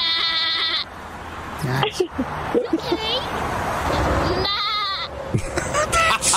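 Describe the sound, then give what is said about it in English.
A woman imitates goat bleats with wavering, nasal calls while real goats answer with loud, quavering bleats and come running toward her, the calls and replies overlapping in quick succession. “And here I am doing silly little goat calls that I've tried to practice since I've met goats in my birthday party years.”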